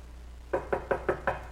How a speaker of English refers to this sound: You know, people say, I knock like the IRS when I'm door knocking. I want to make sure I'm heard, you know, because I don't, some of you guys knock, I'm like, you don't want anybody to answer?